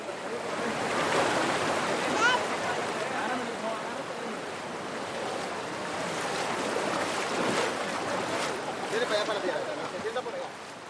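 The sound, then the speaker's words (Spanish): Steady rushing river water fills the scene, a broad continuous splashing roar with surges and sloshes as a human chain of men holding hands pushes across the river in the jungle; indistinct voices sit faintly in the background. “Es una cadena humana de puros hombres agarrados de la mano, empujándose en los unos gatos cruzando el río.”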